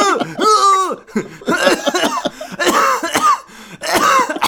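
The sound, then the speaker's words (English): Someone coughs repeatedly and hoarsely after inhaling weed, a string of loud hacking bursts with brief gaps, some with a raspy voiced edge, continuing for several seconds. “Stop coughing.”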